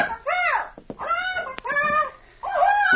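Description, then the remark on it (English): A captain's pet bird aboard a boat squawks loudly in three or four harsh, raspy bursts with brief pauses between them, and nothing else is heard. “Oh, that's quite a bird you have, Captain.”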